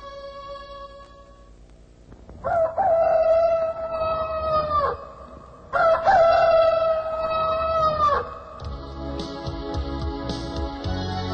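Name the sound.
rooster crowing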